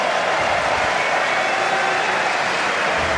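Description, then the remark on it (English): A tennis crowd at a match between Świątek and Vondrousova applauds after Świątek misses a passing shot, a steady, dense wash of clapping that holds at full strength for about three seconds, with no voices standing out above it. “There's the appreciation from the crowd.”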